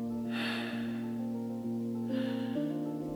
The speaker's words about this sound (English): There is a somatic link in the body between the jaw and the hips. So breathing through an open mouth in this way helps us to open and soften this area where we tend to store so many emotions, stories, and even fears.